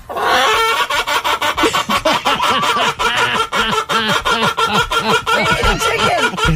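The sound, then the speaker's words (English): A chicken clucks loudly and continuously, a rapid stream of bouncing, cackling calls that rise and fall like laughter, with no talking over it. “Because every time I tell a dad joke, I want to be able to use the chicken sound.”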